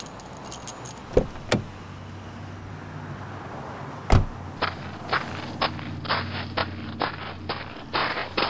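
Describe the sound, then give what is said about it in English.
A bunch of keys jangles in quick, bright metallic bursts as they are handed over, with a sharp clack along the way, over a low steady vehicle hum. Nobody speaks. “give me your keys. I'm driving.”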